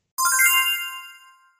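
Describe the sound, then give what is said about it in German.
A small, high-pitched bell on a Christmas tree rings with a few quick jingling strikes, then a clear shimmering tone that slowly fades away over about a second, heard alone. “Es wollte gerne läuten, um das Christkind zu erfreuen.”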